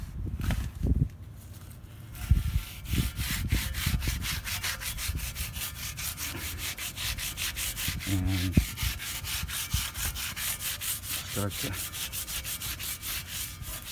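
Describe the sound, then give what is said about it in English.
Wet tin foil, dipped in a cup of water every so often, being rubbed in quick, steady back-and-forth strokes to scrape rust off rusty metal, a rhythmic scratchy scrubbing that runs for several seconds after a brief spoken phrase at the start. “just rub it with the water, dip it in the water every so often.”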